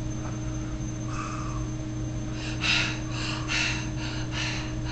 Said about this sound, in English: Breathing. I breathe. I do oh, breathe.